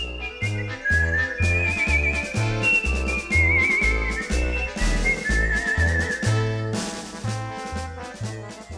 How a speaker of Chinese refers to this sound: 那因为电影《桂河大桥》呢采用口哨吹奏这个主旋律啊，所以呢在很多以后的演奏当中，大家都可以听到这种赋予口哨主旋的《桂河桥进行曲》。